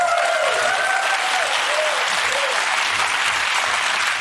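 audience applause and cheering

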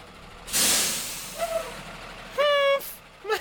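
school bus pulling up

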